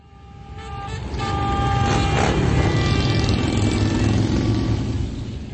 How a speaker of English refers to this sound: Thousands of motorcycles roared into Washington, D.C. Sunday for the annual Rolling Thunder Ride,